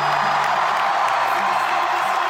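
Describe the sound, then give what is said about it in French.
A concert crowd of young fans inside the Maroquinerie venue roars with cheering and shouting, a dense, steady wall of noise that stays loud for the whole couple of seconds, with faint low tones buried underneath. “Faites un maximum de bruit là !”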